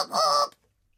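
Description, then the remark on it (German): A single loud, nasal honk from a bicycle horn, lasting about half a second with a buzzy, reedy tone, then silence. No one speaks. “Welches Gehupe hat dir denn besser gefallen? Dieses Melodiegehupe oder so normales, einfach rumhupen?”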